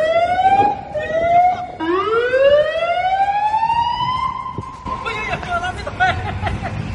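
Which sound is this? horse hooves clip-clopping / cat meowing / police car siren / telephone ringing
police car siren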